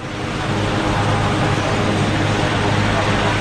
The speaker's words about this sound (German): An normal ist noch lange nicht zu denken, denn noch sind die Hubschrauber fast pausenlos im Einsatz.